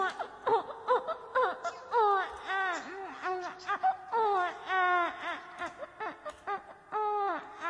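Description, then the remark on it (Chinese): A person cries and wails in a high, quavering voice, imitating a baby: a steady string of short sobbing bursts with rising and falling pitch, loud throughout with brief gasps between. “不是，你得吃，一边哭一边再委屈委屈。”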